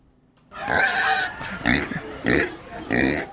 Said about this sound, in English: We're like, wait, I have a sound drop for it. Oh, yeah, wait, I have a pig coming.